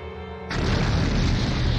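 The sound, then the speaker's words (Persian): A firecracker goes off abruptly with a loud boom in rainy weather, followed by a dense, rumbling roar that holds steady without fading. No one speaks. “چون ترقه 200 پیمانه ایمون درست منفجر نشد.”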